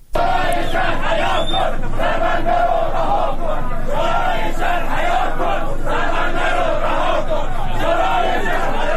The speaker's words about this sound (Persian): وبسایت عصر جنوب فیلمی از اعتراض پنجشنبه شب شماری از مردم بندر امام منتشر کرد.